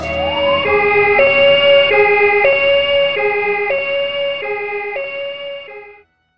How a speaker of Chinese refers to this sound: 叫救护车，救护车。